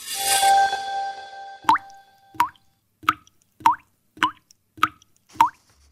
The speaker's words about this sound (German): Wassertropfen fallen ins Wasser. Forscher haben jetzt erstmals den genauen Ursprung des Geräusches gefunden, das dabei entsteht.